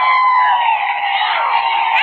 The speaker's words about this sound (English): And now I can see Mrs. Lindbergh, and as they turn for a minute, I can see Lindy himself, receiving with his usual modest demeanor the plaudits of this huge crowd. Now listen to this cheering.